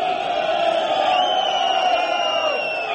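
A large crowd of workers shouting together while union leaders speak into microphones, a steady, dense roar of many raised voices, loud and unbroken for the whole stretch, with a few higher cries rising above the mass.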